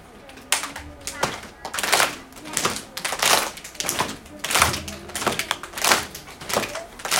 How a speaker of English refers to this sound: Oh, so we stomp. I usually say stomp, clap throughout, so it goes like this.